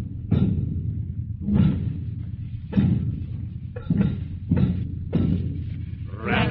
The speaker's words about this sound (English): It's the drums. Boy, look at them. Snare drums, kettle drums, and traps marching along together.